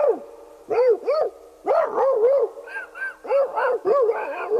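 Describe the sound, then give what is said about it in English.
A rapid, frenzied string of high yelping barks and whines, loud and overlapping in quick bursts, as several dogs, including Ralph the Dog, fight in a submarine, with no pauses in between. “He got into a dogfight in the sub with the other dogs that were on it.”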